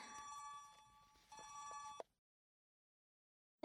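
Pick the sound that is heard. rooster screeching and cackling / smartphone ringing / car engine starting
smartphone ringing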